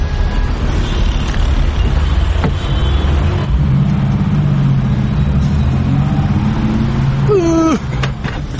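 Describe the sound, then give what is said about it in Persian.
A steady low rumble of car engines fills the scene, constant traffic noise with a rising whine near the end as a vehicle revs or shifts. “ای بابا این ترافیک هم تیر اصفن دیگه داره ما رو دیوونه میکنه به خدا.”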